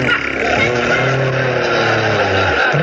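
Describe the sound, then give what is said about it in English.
A voice imitates a motorcycle engine, a steady, loud revving drone with rising and falling pitch that carries on for a few seconds without a break. “That's supposed to be a motorcycle.”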